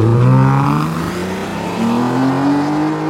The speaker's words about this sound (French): qui étaient les trois premières Mustang à Paris. C'était, mais alors, le son de cette bagnole. C'était somptueux.